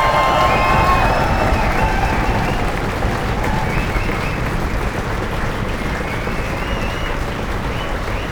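Loud, sustained applause from an audience for two team members, dense steady clapping mixed with crowd cheers and a few whistles, holding at an even level for several seconds without any speech.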